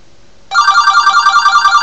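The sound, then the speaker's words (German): A telephone starts ringing abruptly after a brief quiet moment, a steady, bright electronic trill with a fast warbling pulse, loud and continuous with no talking. “Und dann bin ich das Telefon schon wieder, oh mein Gott.”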